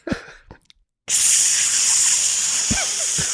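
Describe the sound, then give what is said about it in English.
A few short vocal noises, then a voice imitates the hiss of a burning piece of wood being stuck into Polyphemus's single eye, a loud, steady, breathy hiss lasting over two seconds, a brief voiced squeak rising through it near the end. “Like a burning hissing.”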